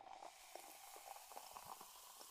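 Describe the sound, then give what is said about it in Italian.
A clear, transparent Coca-Cola from Japan is poured into a glass, a steady hiss of carbonation crackling with tiny bubble pops throughout. It is fairly quiet, with no voices. “Sembra acqua, ma il profumo è di coca. Versiamola insieme e guardate.”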